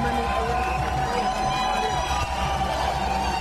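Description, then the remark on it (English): A large crowd cheers and roars steadily throughout, a dense, continuous wall of voices at a fairly constant loudness, with no single speaker standing out. “Why are they cheering?”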